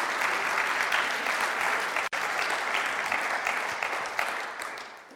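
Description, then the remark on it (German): An audience applauds a guest, clapping steadily in a dense, continuous wash of applause, with a brief sharp dropout near the middle before the clapping resumes and slowly fades toward the end. “Geben wir ihm doch noch Applaus.”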